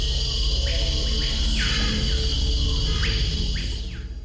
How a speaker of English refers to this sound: The Amazon is alive with more insects than any other place on Earth. Scorpions, beetles, wasps, spiders, and hundreds of different types of tarantulas flourish in the humidity. And the noise they make is deafening.